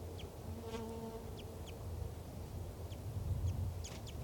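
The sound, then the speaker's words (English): Light, high chip calls from wild birds repeat sporadically, a few seconds apart and fairly faint, over a steady low rumble with a brief buzzing hum early on. Two birds are present; one, a male, is perched in the branch of a ponderosa pine right above a truck. “Wild bird there, light chips.”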